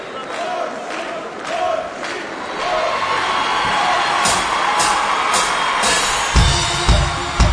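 An audience applauds and cheers as a conductor is invited to the stage, a dense wash of clapping with scattered whoops and shouts rising over it, growing louder toward the end with a few heavier thumps.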